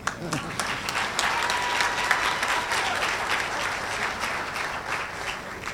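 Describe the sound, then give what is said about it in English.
Steady audience applause at a political candidates' debate, dense clapping from many hands sustained at an even level for several seconds, with faint murmuring voices mixed in beneath it. “Now we can applaud.”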